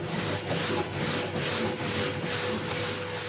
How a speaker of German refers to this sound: Das ist ein Gerät, auf dem kreisförmig ein Abrieb stattfindet. Also oben ein Schleifpapier, unten das Material und dann dreht sich das.